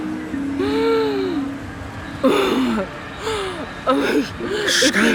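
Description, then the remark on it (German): Panicked, gasping breaths of a person who cannot get air, breathing into a disposable glove; each ragged inhale catches into a strained whimpering sound, repeating in quick uneven bursts. “Sie müssen in den Handschuh atmen. Atmen Sie in den Handschuh.”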